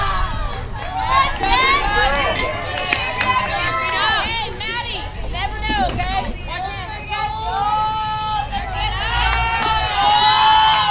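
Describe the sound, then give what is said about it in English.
A ballgame crowd, picked up by the crowd mic, cheers loudly and without pause, many voices shouting and yelling over a thick babble, with high-pitched excited cries rising and falling throughout. “Okay, that's our crowd mic going crazy.”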